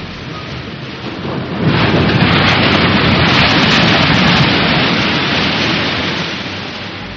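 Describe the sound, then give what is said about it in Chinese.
A big sea wave crashes against a rock wall: a low rushing swell builds, then bursts into a loud, sustained roar of churning water that slowly fades toward the end, with no voices. “那一大片海浪果然穿过了他们，直接打在小伟身后的岩壁上。”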